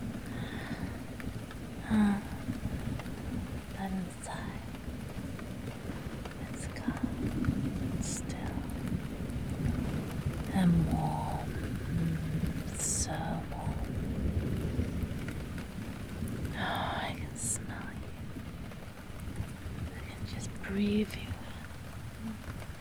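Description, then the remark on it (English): A wind and rain storm roars steadily outside, with a deep, continuous rumble of gusts under a dense hiss of rainfall, broken by occasional sharper patters and knocks. “Outside, the wind is wild. The rain.”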